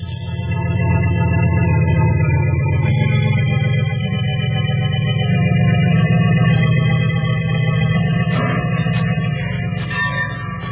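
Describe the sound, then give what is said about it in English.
A train starts to move and slowly gathers speed, a loud, steady low rumble with ringing metallic tones above it, continuous throughout, with no voices. “Starting to gather speed.”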